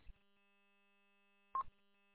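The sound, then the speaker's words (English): Two short electronic keypad beeps from a radio being switched to another frequency, about a second and a half apart, faint against a steady low electrical hum, with no one talking. “I gotta dial up. My other side of my radio is on the wrong frequency. I gotta go switch that.”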